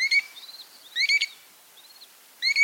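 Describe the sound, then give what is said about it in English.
American dowitcher calls, from plump, brownish shorebirds: three bursts of rapid, high, tinny notes spaced about a second apart, with softer single peeps in between, with no voices. “There are two species of American dowitchers, the long-billed and the short-billed.”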